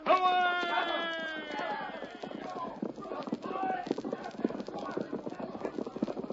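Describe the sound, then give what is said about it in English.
Horses gallop off with a rapid, steady clip-clop of hooves that fills the last few seconds, following a brief drawn-out, falling harmonic cry at the start. The hoofbeats are continuous. “Get on your horse, Tonto.”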